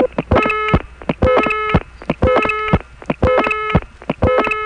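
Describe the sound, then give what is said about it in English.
A local telephone trunk class-of-service tone, triggered by an off-hook from a coin phone, beeps in a steady repeating pattern, about one burst per second, mixed with sharp line clicks and flashes from a test line in New York. Loud and electronic, with no talking. “So you have this local class of service tone here beeping along with the test line that's flashing in New York.”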